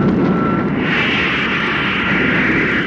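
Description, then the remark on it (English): A craft's motor cuts in for a short burst on low power, a loud, rushing roar that surges and brightens after a moment, then holds steady for a few seconds with no one speaking. “Then we'll cut in the motor.”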